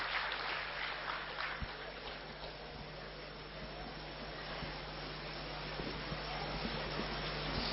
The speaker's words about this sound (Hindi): Okay हाँ, चलिए इनके लिए जोरदार ताली बजाइए, देखिए कॉन्फिडेंस देखिए।